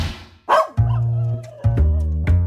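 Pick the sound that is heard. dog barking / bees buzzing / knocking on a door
dog barking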